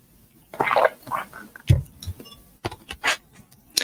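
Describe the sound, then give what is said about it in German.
Someone takes a drink of water: soft wet slurps and gulps, a dull thump as the glass is handled, a faint ringing clink, then quick breathy mouth noises. No one speaks. “Ein Schluck Wasser hier.”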